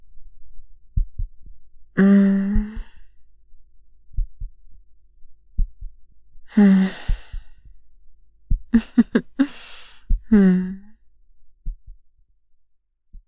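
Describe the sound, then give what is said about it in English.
A slow, steady heartbeat thumps in soft low pairs, muffled, heard while someone lies on top of a person listening to it, breathing heavily and letting out several drawn-out sighs and hums over it. “Catch my breath while I listen to your immortal heartbeat.”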